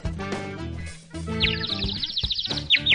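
Bright, high chirps and quick trilling calls of garden birds rise partway through, repeating in rapid bursts over a dense, humming mix of lower tones, clear.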